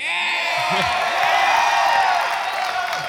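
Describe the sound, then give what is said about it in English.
A crowd cheers and whoops steadily for three seconds as a speaker is introduced, a dense wash of many overlapping voices with high shouts rising above a constant roar. “He's got a cheering crowd, too.”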